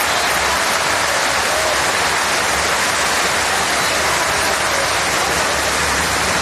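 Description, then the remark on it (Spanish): A large crowd at the Chapela Arena applauds steadily in an ovation for Carolina Marín as a wheelchair comes onto the center court after her knee injury, a dense, sustained wash of clapping at a consistent loudness for several seconds, with no distinct voices standing out. “Escucha la ovación ahora mismo para Carolina.”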